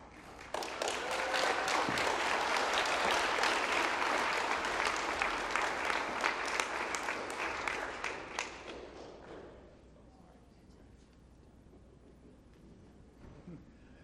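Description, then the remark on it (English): An audience bursts into steady, dense applause for children who completed their Truth Trackers Bible reading books, with many hands clapping at once, sustained for about nine seconds before fading out into quiet murmurs and room noise. “All right, let's give one more round of applause for these kids and all the hard work they completed.”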